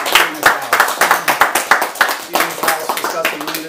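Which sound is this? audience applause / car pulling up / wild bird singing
audience applause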